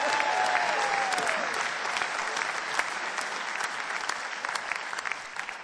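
Sustained audience applause at a live band show, a dense wash of many hands clapping at a steady loud level, with a brief whistle near the start and scattered sharper claps throughout.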